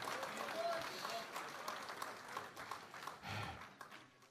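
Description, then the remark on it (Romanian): An audience applauds the Lord Jesus, a dense, steady wash of many hands clapping at once, with indistinct voices mixed into the sustained, fairly loud ovation throughout. “Și aplaudați-L că El este aici.”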